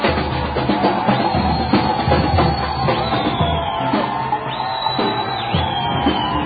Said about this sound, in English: It's a boisterous crowd running. Police are trying to keep up with them. People running on top of cars now. And a hastily erected barricade by the police. Barricade of scooters.